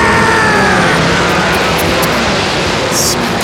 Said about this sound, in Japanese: さあ、各社が一斉にエンジンを吹かす。エキゾーストが奏でるオーケストラサウンド、長い舞台の幕が今開いた。